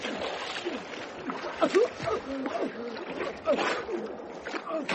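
Churning water splashes and sloshes continuously as a person is dunked under the water, with bursts of thrashing and muffled gurgling noises rising and falling throughout.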